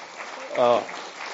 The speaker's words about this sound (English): And how about just a good hand clap for the fact that we've got